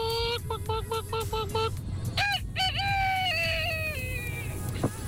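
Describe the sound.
A radio listener imitates a rooster in a message sent to the Rouge station's WhatsApp, starting with a quick run of short clucking bursts, then a drawn-out crow. The voice is loud over a steady low rumble.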